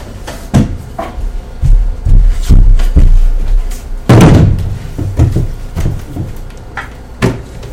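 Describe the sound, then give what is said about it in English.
Kitchen cupboard doors bang open and shut in a run of wooden knocks and clatters, with one loud slam midway and a few lighter thuds after, no voices. “Oh, I need a chair. I'm too fucking short for the cupboards in the kitchen.”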